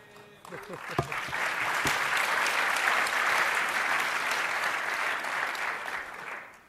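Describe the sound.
An audience breaks into steady applause that swells quickly and holds at a full, even roar for several seconds before starting to taper, with a brief voice heard just as it begins.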